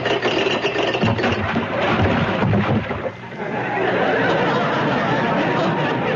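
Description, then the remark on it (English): A ship dropping anchor: a dense, loud, rattling clatter of chain mixed with a steady engine rumble, briefly dipping around midway before continuing as a constant roar. No one speaks. “Next, a ship dropping anchor.”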